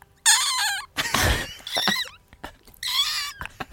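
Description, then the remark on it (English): A man imitates a seagull with a few shrill, wavering squawks, fairly loud. A breathy, noisy burst and short clicks fall between the cries. “but my favorite one out of all of the impressions that he's so good at, I think my favorite is when he does a seagull.”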